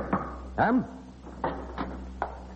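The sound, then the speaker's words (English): A door swings open with a short, rising-and-falling creak, surrounded by a handful of light clunks and clicks spaced irregularly over a couple of seconds, over a steady low hum. “Right, close that door quickly.”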